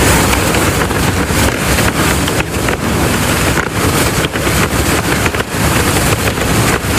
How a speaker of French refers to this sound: Ouais, c'est le vent dans les voiles. Voilà, tout simplement.